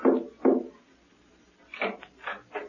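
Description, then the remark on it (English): Soft, hesitant signal knocking on a hotel room door: two muffled thuds, a short pause, then a quicker run of lighter raps, quiet, with no talking. “There was a cautious knock on the door, repeated three times.”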